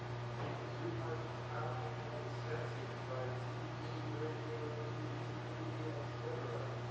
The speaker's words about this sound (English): You know what? He's speaking over the air conditioner. Too much.